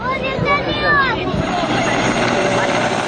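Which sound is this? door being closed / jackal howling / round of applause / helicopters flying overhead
helicopters flying overhead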